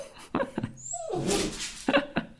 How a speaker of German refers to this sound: Der kleine Hundi sieht gerade seine Spiegelung in unserer Balkontür und jetzt muss er den anderen komischen Hund da verjagen.